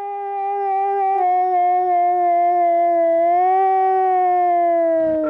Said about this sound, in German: konnte das Heulen der Wölfe so gut imitieren, dass ihm seine Tiere sogar darauf geantwortet haben, wie man hier hören kann.